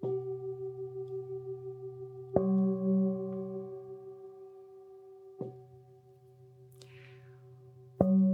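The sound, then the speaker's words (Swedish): Two steady, sustained tones a perfect fifth apart, played on singing bowls, hum together, restruck every few seconds with a soft attack and then ringing evenly at moderate volume, with no voices. “Och för dig som lyssnar, om du nu är väldigt musikalisk, så kommer du att höra att det här är en kvint. Det är alltså fem toner emellan.”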